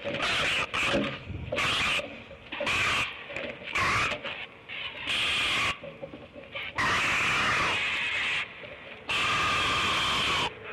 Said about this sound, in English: Wow, that's one mad mom. But why is this important for scientists? This vocalization from the great blue heron had never been recorded before.